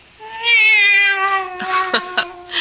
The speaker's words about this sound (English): Oh, no, no. It's the cat. She's back.